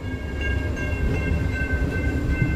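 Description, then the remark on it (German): A passenger train in Alaska, on the 4.5-hour journey from Anchorage to Seward, rolls steadily along the rails with a continuous low rumble and faint rhythmic clatter, thin high tonal whines running over it, and no voices. “4,5 Stunden dauert die Fahrt von Anchorage nach Seward.”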